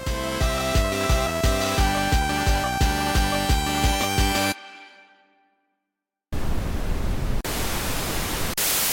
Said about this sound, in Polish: To i ja pozwolę sobie poeksperymentować. Co wyjdzie z szumu białego i kilku innych? Sprawdźmy to, szanowni państwo.